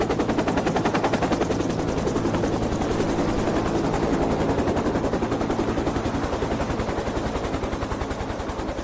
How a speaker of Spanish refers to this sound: Cuando se disponían a regresar, escucharon el ruido de un helicóptero, tomaron el agua y regresaron apresuradamente al monte.